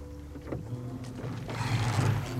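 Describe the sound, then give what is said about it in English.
Oars dip and pull through water in a steady rhythm as a boat is rowed back to shore, with splashy strokes about every half second and a continuous low rumble of the boat underneath, moderately loud. “Dad rows us back to shore where Mom and Aunt Ida are waiting with a picnic”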